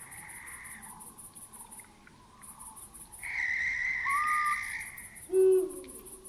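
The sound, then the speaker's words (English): A single loud owl hoot sounds near the end. It rises over a steady chorus of chirping crickets and insects pulsing through a quiet, leafless forest in a park on a night of hard frost under a full moon. “It does it with such intensity that it lights up a cave's entrance where several nocturnal raptors have spent the day.”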